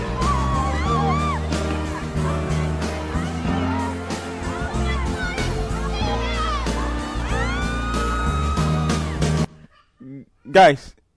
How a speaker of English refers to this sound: Guys, can you guys hear all the females screaming? All the females screaming, you know what I'm saying?